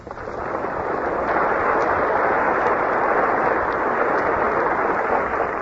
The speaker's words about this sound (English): And after the people applauded, she spoke.